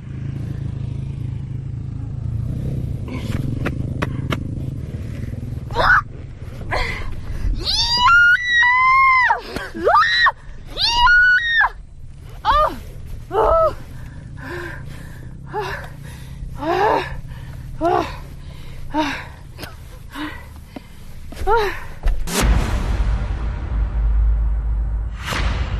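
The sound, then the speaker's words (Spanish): A woman alone in a sand dune cries out and screams again and again with strain as she lifts her half-buried motorbike, a run of loud, effortful shouts and grunts over a low idling engine rumble, ending in a sudden rush of noise. “Pero le ha costado tanto que fíjense el esfuerzo tan descomunal que ha tenido que hacer.”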